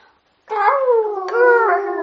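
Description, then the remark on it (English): During a game of Simon Says, a person imitates a rooster crowing with one long, wavering, howl-like cry that slides slowly downward in pitch and catches briefly partway through. It is fairly loud and stands alone. “Oh, that was the worst rooster sound in the world.”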